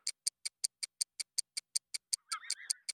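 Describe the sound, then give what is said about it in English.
Rapid, evenly spaced, crisp ticks of the 'Doom Clock', about five per second, with a brief warbling, strained tone creeping in near the end. No voices. “It's the strained sounds of the weary doom clock.”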